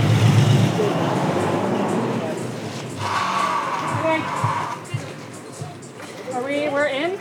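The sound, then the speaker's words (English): A pickup truck's engine strains as it pulls a massive tangled ball of marine debris into a shipping container, a steady rumble with a rising whine in the middle, while volunteers call out faintly in the background. “A bit of regrouping, and the pickup truck gives it one last pull.”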